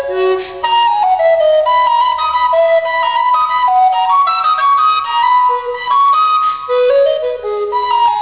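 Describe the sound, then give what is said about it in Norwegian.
A recorder plays a flowing melody of clear, breathy notes, moving steadily up and down at an even, moderately loud level with no voices. “Her hører du at spurveugla og blokkfløyta ikke klinger helt ulikt.”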